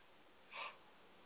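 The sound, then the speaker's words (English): A single short, breathy sneeze bursts out once in the middle, brief and fairly soft, against otherwise quiet background with no talking. “Yeah, I mean, I'm about to sneeze.”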